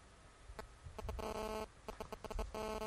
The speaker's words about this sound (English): And that's not my phone beeping.